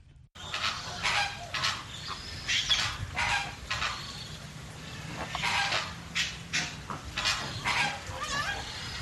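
A flock of flamingos honks continuously in a walk-in aviary enclosure at the World of Birds Wildlife Sanctuary, overlapping nasal calls rising and falling in a steady chorus, with no one talking.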